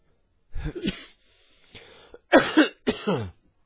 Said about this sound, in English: Sorry, beloved. This cough is now overwhelming me.